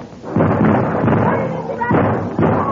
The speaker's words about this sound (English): Get your guns ready. A few more steps and we are there. Watch it now. Fire!